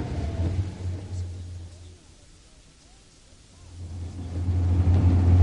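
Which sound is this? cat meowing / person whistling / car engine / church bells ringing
car engine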